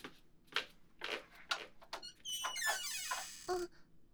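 A few soft footsteps lead into a long, creaking hinge squeal as a door behind a shop counter, leading to the second floor, swings open, then it shuts with a solid thunk. Quiet, with no one speaking.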